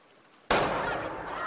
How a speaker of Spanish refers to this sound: Destapa una botella de champagne.